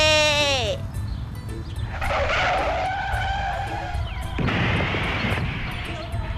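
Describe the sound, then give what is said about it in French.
A motorcycle engine whines past, its pitch sliding down sharply, followed by a rough rumble and screeching, skidding tire noise that stays loud throughout. “J'arrive à faire rouler une moto par la pensée.”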